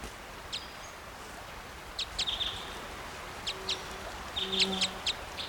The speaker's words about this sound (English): Here's the female's flight call.